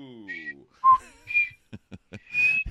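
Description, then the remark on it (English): A person practices whistling, a few short, breathy notes, pitches wavering between attempts, with brief pauses and small clicks and a low vocal hum at the start. “I got to practice my whistle.”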